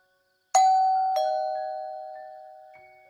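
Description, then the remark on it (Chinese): A doorbell at a home rings in the evening, a clear two-tone ding-dong, the second chime following quickly after the first, both tones ringing out and slowly fading in quiet. “晚上，黄书记一个人待在家看新闻，忽然传来了门铃声。”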